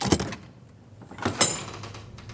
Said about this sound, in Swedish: Anastasia inser direkt att något är fel när dörren till sovsalen öppnas.